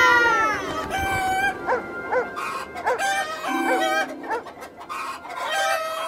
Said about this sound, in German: Dort drüben ist eine Hühnerfarm.